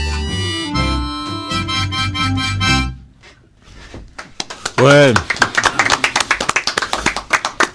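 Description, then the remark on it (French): A sustained musical chord rings for a few seconds and cuts off, then an audience bursts into loud, dense applause, with a voice briefly calling out over the steady clapping. “C'est bien, on a fait rentrer des gens, il y a plus d'applaudissements.”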